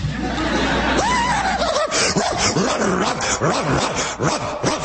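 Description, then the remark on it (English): A dog yelps with a rising whine, then a burst of rapid, overlapping barks and snarls follows, loud, as if several dogs are barking and growling together. “Ruff, dog hasn't barked.”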